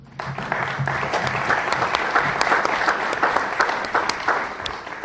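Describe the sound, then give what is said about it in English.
An audience claps steadily for several seconds, a dense, even wash of many hands with sharper individual claps popping out, fairly loud throughout, with a faint murmur of voices underneath. “I don't see any of the students clapping.”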